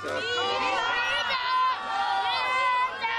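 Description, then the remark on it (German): A large audience shouts "Vita" together in unison for a defeated young gladiator, many voices blending into a loud, sustained roar of the drawn-out word for several seconds. “Habe ich einen Namen für das Publikum und höre ein lautes Vita für den Palamonius?”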